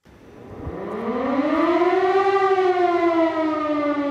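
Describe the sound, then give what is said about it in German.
A civil defense warning siren in Bavaria, Germany, sounding on the first nationwide warning day (Warntag), winds up from a low growl to a loud, steady wail, its harmonic tone rising over the first two seconds, then holding and sagging slightly in pitch. “Und das war auch der Hintergrund des ersten bundesweiten Warntags heute.”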